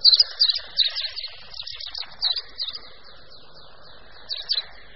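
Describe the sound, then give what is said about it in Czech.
A wagtail twitters and chatters in a rapid, high-pitched song of quick repeated notes, bursts clustered at the start and again near the end, clear with no talking. “Můžeme se s ním u nás setkat prakticky po celém území, přičemž početnější je v nižších polohách, ale naopak vystupuje i vysoko do hor, kde svým štěbetáním a švitořivým zpěvem oživuje i vysoko položená místa.”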